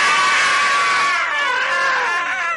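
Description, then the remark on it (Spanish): Passengers on a plane scream together as it dives, loud, several shrill wailing cries overlapping and wavering in pitch for a couple of seconds before trailing off. “¡Nos gritamos!”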